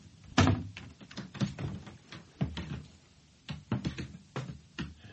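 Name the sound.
door being closed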